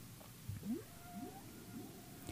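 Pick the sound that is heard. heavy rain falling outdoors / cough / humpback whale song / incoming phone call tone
humpback whale song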